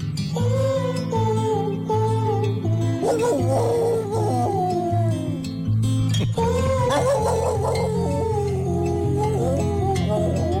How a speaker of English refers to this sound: Hey, I was just curious, what was that clip there with the dogs? Okay, do you have a title for that? Okay, so here's the guy who's listening, and he really enjoyed the song. This is what we played.